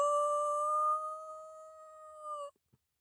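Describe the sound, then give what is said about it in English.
A puppy named Etzel, sitting back on his haunches by a heavy door, lets out one long, unbroken wail on a steady, high-pitched tone, holding it for over two seconds before it stops abruptly, followed by a faint click. “Opening his mouth, he let out a long, heartbroken wail.”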